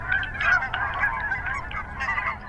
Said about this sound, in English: There are a lot of geese on the lake, several hundred of them.